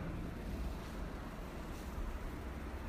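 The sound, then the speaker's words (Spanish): Steady, continuous rush of sea waves with a deep low rumble and a soft hiss on top, fairly even in loudness throughout, with no voices. “Vamos a dejar que ahora la energía, la vibración del sonido de la música del mar abra de par en par las compuertas de nuestros tobillos, de nuestra articulación.”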